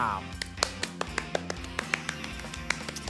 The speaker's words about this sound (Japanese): はい、たった一人で、ラジオやってますんでね、かなり拍手の数は少なかったけどもね、多分このラジオを聞いてですね、相当な方の拍手が今湧き起こったんじゃないかなと思います。